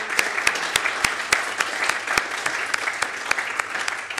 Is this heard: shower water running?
no